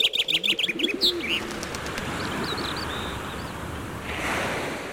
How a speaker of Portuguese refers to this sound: Fecho os olhos. Que cor são estes pássaros?